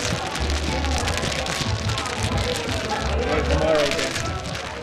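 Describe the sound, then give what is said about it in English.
Mahjong tiles being shuffled by players in the middle of the table between hands, a dense, steady rattle of countless small hard clicks and clacks that runs continuously for the whole clip at an even, fairly loud level. “So did your table spend a lot of time like everybody shuffling the tiles in the middle between fun.”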